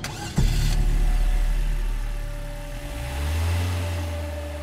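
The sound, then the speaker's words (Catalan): A car engine cranks briefly and catches at the start, after a guard has opened the hood and manipulated cables, then settles into a steady low idle with a slight rise in revs near the end. Fairly loud, no voices. “El cotxe es fica en marxa.”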